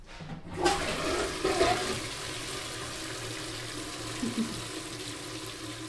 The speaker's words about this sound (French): Alors, reste de l'ancienne école, il y a des toilettes mini-portions, parce que c'était une école maternelle. La chasse d'eau fonctionne encore? Alors, j'avoue que j'ai pas essayé jusqu'à présent.